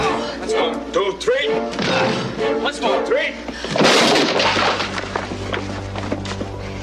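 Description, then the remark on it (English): Voices call out a count, then a single loud, splintering wooden crash as people ram and break down a heavy door, followed by lingering rumbling noise. “Maybe we can try and break the answer. It's a very heavy door.”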